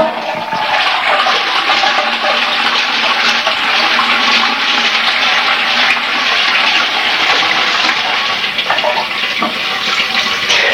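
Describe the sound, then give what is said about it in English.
A toilet flushes in a bathroom with a hard lino floor, recorded on a tape deck placed by the toilet. The loud, steady rush of water holds at full strength for the whole stretch, a broad hissing gush with gurgling undertones and no voices. “That's the toilet, whoops, where I've just put the tape deck, and just for effect.”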